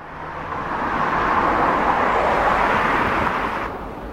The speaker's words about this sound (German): Die sollen den Lärm schon auf der Strasse schlucken. Und es funktioniert. Lasst mal her, wie es tönt, wenn ein Auto vom Normalbelag auf einen Flüsterbelag fährt.